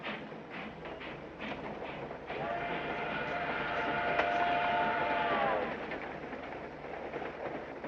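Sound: train leaving the station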